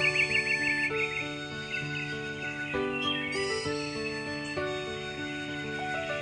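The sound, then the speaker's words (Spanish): Small birds chirp and twitter continuously at daybreak over a bed of soft, sustained musical tones, the bright calls loudest near the start and carrying on steadily throughout, with no one talking. “¡Ya amaneció! ¡Escuchen los pajaritos cómo cantan!”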